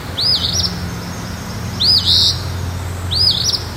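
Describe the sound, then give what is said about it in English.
An eastern phoebe, recorded in Waitsfield, calls three times at steady intervals, each a sharp, buzzy two-part phrase, clear over a low background rumble. “And this is the sound of a phoebe, recorded by Anne Marie Harmon in Waitsfield, who said she recognized the bird call from a program on Vermont Public.”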